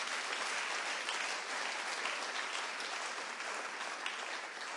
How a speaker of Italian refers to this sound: Facciamo un applauso al Signore.